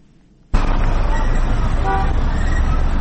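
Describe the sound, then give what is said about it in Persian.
Busy street traffic on the roads of Kabul, Afghanistan, on the second day of Eid al-Adha, starts abruptly: a steady, loud roar of engines and road noise, with a few short car horn toots sounding over it midway through. “خبرنگار رادیو آزادی به جاده‌های کابل رفته و نگرانی مردم را در پیوند به تهدیدهای امنیتی پرسیده است.”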